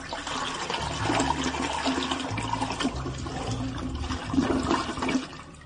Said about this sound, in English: We're calling out when we think the flush is going to go off. It's called Lavi Sifri. Okay. Okay? It's 1-0 to me. Here we go. It's the end of the last flush.